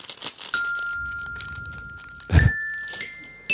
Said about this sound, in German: Es kommt immer was dazwischen, dass ich irgendwie nicht kann an diesem Glockenspiel.